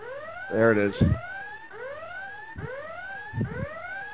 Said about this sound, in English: There it is, the Brandon Dubinsky siren.